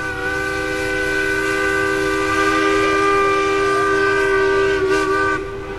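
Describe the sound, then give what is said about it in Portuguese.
A steamship's whistle gives one long, steady, rich-toned blast lasting over five seconds as the steam-powered ship departs, wavering slightly in pitch near the end before cutting off. No voices accompany it. “é o barulho da partida de um navio a vapor.”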